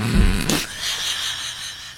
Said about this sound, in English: Yep. We know what it is. She'd farted. Yeah. We'd been together for a couple years, and this was the first peep I had heard from her derriere.